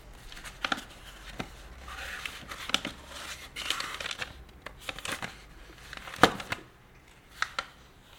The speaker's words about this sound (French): Vos petits bruits de papier.